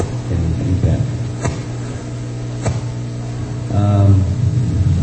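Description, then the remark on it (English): A bus engine rumbles with a steady low drone that swells louder toward the end as it passes, with a couple of sharp clicks cutting through the hum. “There's still a bus.”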